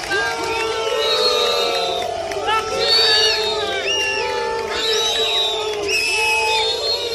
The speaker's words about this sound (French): Des sifflets couverts par l'arrivée de la patrouille de France, nuages tricolores dans le ciel pour lancer la traditionnelle parade.